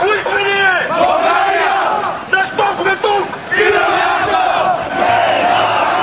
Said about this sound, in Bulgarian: Така започна протестното шествие в столицата. Стотици младежи, родители с малки деца и любители на свободния достъп до интернет излязоха да кажат не на акта и приканваха останалите граждани да се включат в демонстрацията,